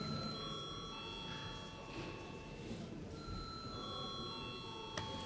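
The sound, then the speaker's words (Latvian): A parliament's voting call bell rings steadily for several seconds before a vote on a bill, a sustained metallic tone at an even level over a low murmur in the chamber. “Lūdzu, zvanu.”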